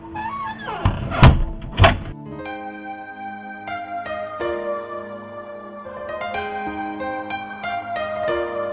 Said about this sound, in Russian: Кухарка ударила ее по губам, потащила к парадной двери, вытолкнула на улицу и заперла за ней дверь на ключ.